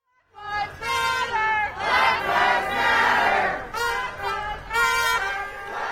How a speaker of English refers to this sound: You're listening to protesters in the streets of Portland, Oregon over the weekend. At times, police used pepper spray and crowds were seen throwing rocks and fireworks.